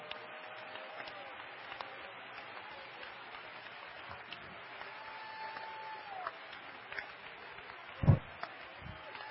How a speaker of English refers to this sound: Clap your hands with me.